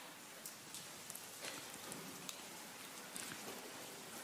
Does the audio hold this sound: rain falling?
yes